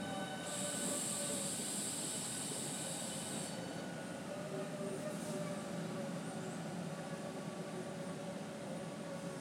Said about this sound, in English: Here's a train coming the other way. I think this is going to Whitstable and all that. You might have heard the electricity in the lines as it was coming down.